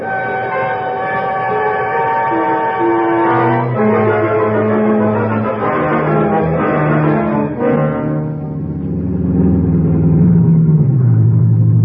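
The northbound Limited train pulls out of the railroad depot, its heavy engine rumbling loudly beneath sustained, horn-like tones that shift in pitch, building into a deeper, louder roar toward the end. No one speaks.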